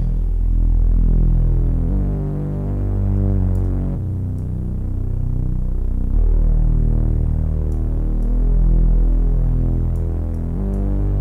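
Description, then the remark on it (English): A loud, deep bass line plays alone, its low end boosted with the low gain of a shelving filter, heavy and throbbing in steady sustained notes that change pitch every couple of seconds, with little high-frequency content above. “but now I've lost a lot of that really fun oomph that's in that signal, so I can add it back with the low gain. Now at this point, this is a shelving filter.”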